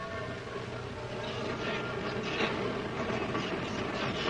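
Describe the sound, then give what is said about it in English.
A steady, continuous rumble of an empty train carriage from Waterloo bumping along hurriedly improvised rails, dense low-end clatter and hiss holding at a constant level, with no clear pauses or breaks. “And after the first rush was over, I caught one of the free trains from Waterloo and set off with a heavy heart to find out if anything was left of my home.”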